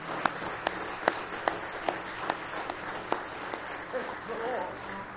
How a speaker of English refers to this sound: Let's give Him a big hand clap of praise if you love Him with all your heart tonight.